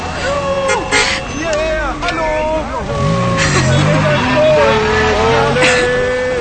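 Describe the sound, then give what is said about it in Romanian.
Steady rumble of cars moving past in traffic, all heading in the same direction, west toward West Berlin, with several people talking and calling out over the continuous engine noise. “Deci adevărat, toate mașinile astea se duc în aceeași direcție.”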